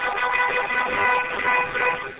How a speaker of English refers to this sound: I think somebody's honking their horn.